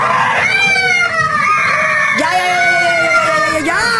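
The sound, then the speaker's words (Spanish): Several high-pitched children's voices shriek and wail together in fright as people wearing masks scare them, loud and continuous, their overlapping cries rising and falling for the whole stretch with a sharp fresh scream breaking in partway through. “Y escucha los gritos de los niños.”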